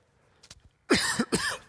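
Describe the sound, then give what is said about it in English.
Two harsh coughs in quick succession from a speaker who has had a cough all week, loud and raspy, preceded by a few faint throat clicks and breaths; no talking. “I've had a cough all week.”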